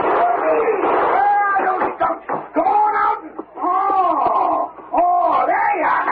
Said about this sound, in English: You old reprobate, what in thunder are you yelling and shooting for?